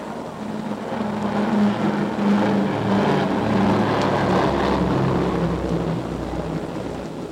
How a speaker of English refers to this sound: The event culminated in a flypast by planes from the Czechoslovak bomber squadron that had served in the RAF.